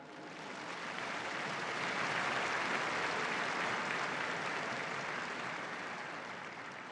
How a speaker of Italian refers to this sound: Un applauso al nuovo beato.